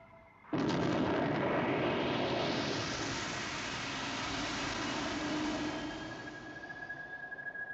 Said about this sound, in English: Yasko, preparing for liftoff. Have a seat. Clear to lift off, Eagle 4.